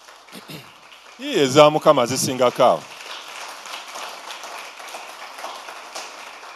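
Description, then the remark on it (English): A church audience breaks into steady, moderate applause for themselves and for the Lord, a dense wash of many hands clapping that continues to the end, with a loud voice calling out over it early on. “Clap for yourselves and clap for the Lord.”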